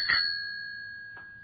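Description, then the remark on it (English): A bicycle bell on a bike in a hall rings out with a bright metallic ding that lingers and slowly fades, followed by a second lighter strike about a second later, clear with no talking. “That's the bell.”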